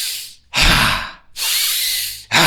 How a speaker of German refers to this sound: Der hat mit uns so tantrisches Atmen gemacht, wo du so, also wenn du atmest ein und spannst den ganzen Körper an, so...